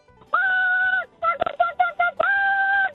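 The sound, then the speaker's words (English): A woman's voice imitates a chicken in a chicken calling competition, starting with a long sustained squawk, then a run of short choppy clucks, and ending with another drawn-out squawk, loud. “we talked about the ladies' chicken calling competition.”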